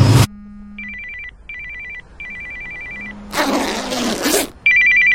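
A landline telephone rings in a series of bright, buzzing electronic trills with short gaps between them, interrupted once by a loud burst of rough noise. Nobody speaks.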